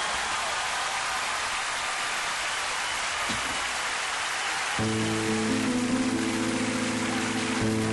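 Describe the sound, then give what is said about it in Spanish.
A crowd applauds in a steady, dense wash of clapping, given as a tribute to young people who work for the church in Peru. About halfway through, sustained musical tones begin playing beneath the continuing applause. “Y quiero llevarme de ustedes un aplauso para ellos en este momento.”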